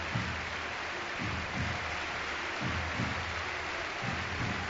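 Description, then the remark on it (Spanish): The crowd at the Camp Nou stadium, on its feet, applauds Sergio Busquets as he is substituted off during a Barça match, a steady, dense wash of clapping that holds an even loudness throughout, with low rumbling swells beneath it and no voices standing out. “Se retira ahora Sergio Busquets para recibir este caluroso aplauso del Camp Nou. Lo escuchamos.”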